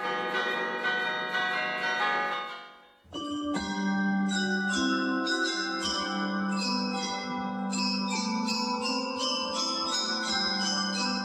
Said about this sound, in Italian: esistono due sistemi di suono, a corda, che è il sistema che si utilizza per suonare le campane